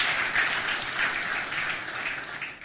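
A church audience gives the Lord a clap of praise, a dense, steady wash of many hands applauding that holds at an even level throughout, with no voices over it.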